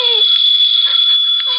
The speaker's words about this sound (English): The phone kept ringing and ringing until I guess I went a little crazy.